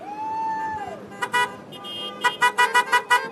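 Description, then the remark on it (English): A logging truck carrying logs rolls past in British Columbia, its horn sounding a long tone that drops in pitch, followed by a string of short, rhythmic honks over steady road rumble, loud. “Here comes a truck. Tell me, are those logs on that truck?”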